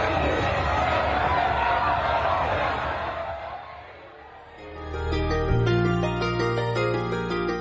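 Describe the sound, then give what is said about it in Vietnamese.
A dense crowd of thousands at Ezeiza airport, Argentina, around 3 a.m. local time, roars, cheering and shouting with joy, with banners, flags and flares, celebrating the country's first World Cup title in 36 years. This lasts about four seconds before the noise fades away and steady music with sustained tones takes over. “đã đến sân bay Ezeiza từ rất sớm, mặc dù lúc đó mới khoảng 3 giờ sáng giờ địa phương, hàng ngàn người đã chờ đợi với các biểu ngữ, cờ và pháo sáng, và hò hét trong niềm vui sau 36 năm kể từ lần cuối cùng nước họ giành chức vô địch World Cup.”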